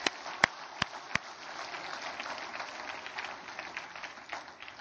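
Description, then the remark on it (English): An audience claps for Jesus, opening with a few sharp, distinct claps before settling into a steady, dense patter of applause that holds throughout at a moderate level. “So, let's give Jesus a clap.”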